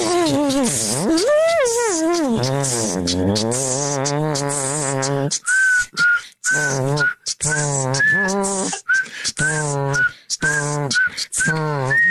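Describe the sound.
Three people imitate music with their mouths: a buzzing mouth-trumpet melody with wavering harmonics, a high thin whistled tune, and rhythmic vocal percussion beats in short bursts, loud throughout.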